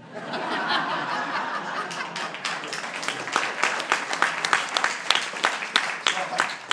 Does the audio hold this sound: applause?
yes